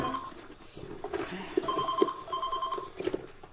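A telephone rings with a steady electronic warble, one short burst followed by a longer ringing stretch, moderately loud over a faint background hum.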